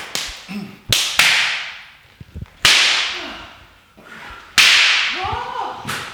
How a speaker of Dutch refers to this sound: Ik deed de klapjes even luisteren. Het is heel naar dof deze, hè? Hele nare dofte klappen zijn het.